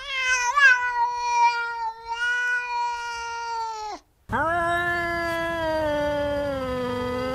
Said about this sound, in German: Okay, jetzt wird's klar, es waren Katzenlaute.